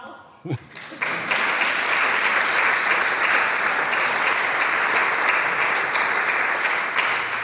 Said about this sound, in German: Applaus!